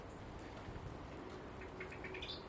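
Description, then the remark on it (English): Light rain patters steadily under a low, rumbling rush of gusty wind on a dark, mild December morning, fairly faint and continuous throughout, with a few thin high chirps near the end and no voices. “Strong gusts again, and rain. Although the rain isn't so heavy at the moment.”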